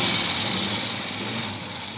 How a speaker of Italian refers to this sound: È una moto di un poliziotto che sta girando per il traffico.